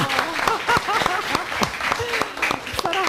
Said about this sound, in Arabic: حسن جدا صفقوا عليها.